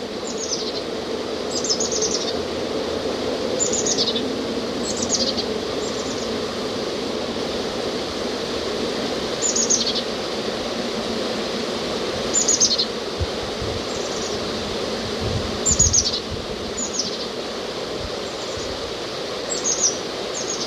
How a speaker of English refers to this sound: I can't see what these birds are doing. They're high up in the alder trees.